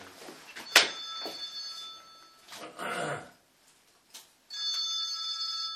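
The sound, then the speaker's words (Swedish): A phone rings with a bright electronic ringtone, two ringing bursts separated by a short gap with some clattering and rustling sounds in between. “Vill du svara? Får jag ta den bara?”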